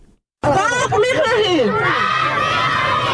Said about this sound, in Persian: در چهارمین روز اعتراضات گسترده و تحسن شهروندان غوری، امروز در زیر باران زمستانی شماری از زنان نیز در کنار معترضان ایستادند و خواهان توجه حکومت مرکزی در این ولایت شدند.